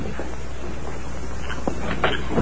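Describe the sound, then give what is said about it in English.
A few knocks on the wooden front door of a ranch house at almost midnight, spaced irregularly against a steady background rumble and hiss, with no voices. “A few minutes later, Sam Mullins stood knocking on the ranch house door.”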